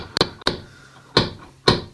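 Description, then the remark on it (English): Four sharp, solid knocks on a door, fairly loud: two in quick succession, a brief pause, then two more spaced a little further apart, with no voices. “I heard a knock on the door.”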